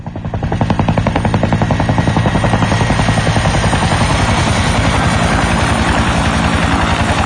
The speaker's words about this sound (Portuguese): Muito bem, vamos para o nosso heliponto. No nosso helicóptero, o helicóptero aqui da Amp FM, está ele, graças a Deus, helicóptero hoje mais leve, mais tranquilo.